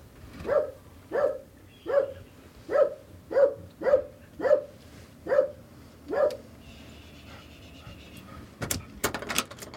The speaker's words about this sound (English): This is Violet. Hi, Violet. Hey. She likes to bark and then she likes to lick.